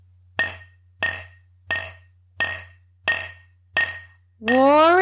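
household object, glass bottles clinking together

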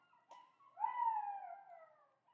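animal, jackals howling

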